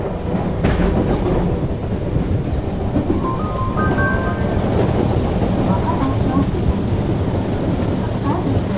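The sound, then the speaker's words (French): An RER commuter train, in a scene of the film Les Misérables, rumbles steadily along the rails, a loud, dense low roar, with a few brief high metallic squeals rising partway through. “Fondue au noir, la caméra se fixe sur Damien Bonnard dans le RER, avec le petit Issa.”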